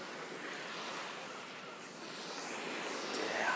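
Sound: sea waves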